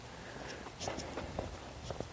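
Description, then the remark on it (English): Brisk footsteps crunch along at a steady pace on a chilly morning walk, about four or five steps in quick succession, fairly soft over a low outdoor background hum. “So 18 minutes, I have to finish this walk in 18 more.”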